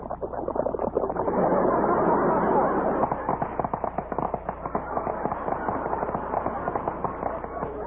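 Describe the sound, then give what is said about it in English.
Milk is poured over Snappies breakfast cereal. A dense, steady crackling like cereal in milk gives way to a rapid string of sharp pops resembling firecrackers going off, loud and continuous with no voices. “When you pour milk over other cereals, they merely crackle. Listen. But when you pour milk over Snappies, you get action.”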